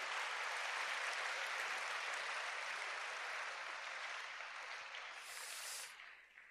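A crowd applauds steadily, a dense wash of many hands clapping at an even, loud level for several seconds before the clapping thins and fades at the end.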